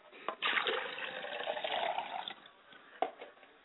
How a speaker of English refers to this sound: And we pour libations to the south, and we say Ashe.